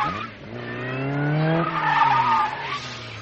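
A big black car skids in a near miss with people crossing the road, with a long, loud tire squeal, its pitch holding then shifting across several seconds as the engine roars beneath, the sound swelling midway before easing off.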